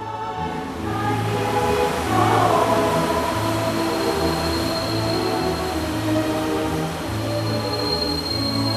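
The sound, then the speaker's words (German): A DB Nordpolbahn train rumbles steadily with a rhythmic, repeating low clatter and a thin high whine over a continuous loud roar as it arrives at the North Pole, where it ends; no voices. “Bitte alle aussteigen, dieser Zug endet hier.”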